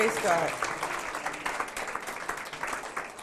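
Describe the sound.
An audience stands and breaks into sustained applause in the name of Jesus to welcome a sister, a dense wash of many hands clapping steadily for several seconds, with a brief voice rising above it at the start.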